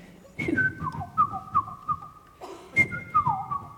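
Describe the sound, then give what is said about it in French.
A person whistles an imitation of the song of the Komadori, a small Japanese bird like a nightingale: a high opening note sliding into a quick series of descending trills, then the phrase repeats once. No speech. “Et en fait, il a un chant assez caractéristique qui fait quelque chose comme...”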